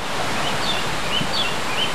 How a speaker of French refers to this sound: Aussi, nous sommes allés enregistrer des sons dans la forêt. En voici quelques exemples. La rivière. Les oiseaux.